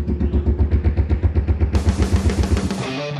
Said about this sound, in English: The central identifying element of the Harley-Davidson is the sound of its exhaust. The Harley-Davidson is a loud, raucous, vibrating... It's a V-twin. Lumbering. And then it goes boom, boom, boom, boom.